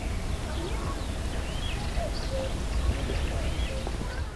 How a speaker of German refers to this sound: Aber früh am Morgen um 5 Uhr, da singen die Vögel alle. Da muss man das zuhören. Hörst du das?